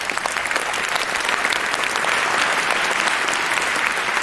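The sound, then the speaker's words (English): A room full of people at Congress claps steadily for the angels, translators and heralds, a dense wash of applause that holds at a fairly loud, even level for a few seconds without anyone speaking over it. “So can we give them a bit of a round of applause?”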